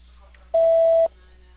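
A single loud, steady electronic beep of about half a second, the kind a voicemail system sounds before recording, set against a quiet, faintly humming phone line.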